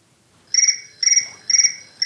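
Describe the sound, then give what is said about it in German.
An electronic telephone rings in a steady, repeating pattern of short, high, trilling tone bursts, four in a row at an even pace, with no one talking. “Oh, da schellt gerade das Telefon.”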